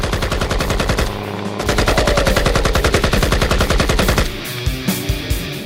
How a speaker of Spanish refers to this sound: Comienzan a llover balas por todas partes.